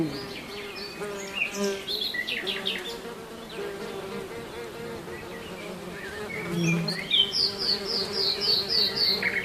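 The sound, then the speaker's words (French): A steady drone of buzzing bees hums throughout, rising and falling slightly, while birds chirp and twitter in bright bursts, with a quick run of repeated chirps near the end. “C'était les abeilles.”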